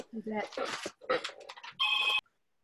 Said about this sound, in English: I'm going to answer that phone for a second.